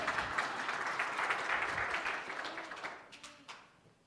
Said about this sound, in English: Mom, can you please come forward? Yeah, clap for her again.